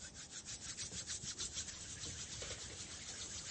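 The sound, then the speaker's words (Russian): Palms rubbed together in a studio to imitate rain: a soft, steady hiss, rhythmic swishing strokes at first, then a more even rustle. “Можно ладонями показать дождь.”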